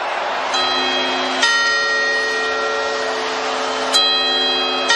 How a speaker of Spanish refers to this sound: Campanadas de fin de año en Castellón que han estado a punto de no poder disfrutar de este momento.